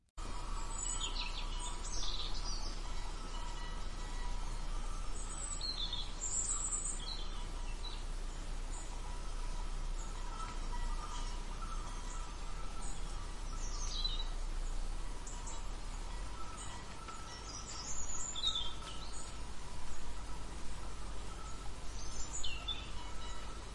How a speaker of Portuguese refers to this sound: Só de entrar no parque, as duas já ouviam o cantar dos pássaros e o farfalhar das folhas das árvores, o que lhes dava uma sensação mágica.